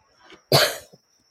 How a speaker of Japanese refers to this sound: なかなか私ね、咳がね、なんか話そうと思ったら咳が出るから困りますね。 なかなか、あれですか、前回のそのコロナ以降ですか、 まあ、そういう影響かなと思ってますね。